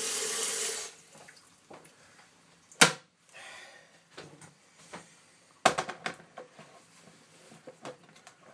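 A short burst of water poured into a pan stops after about a second, followed by two sharp metallic clanks and light kitchen clatter, with no talking.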